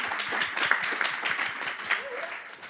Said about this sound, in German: Herzlich willkommen und einen großen Applaus.